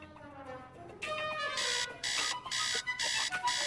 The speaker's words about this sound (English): It's 7 o'clock when a teenage boy, Cody, hits a button on his buzzing alarm clock.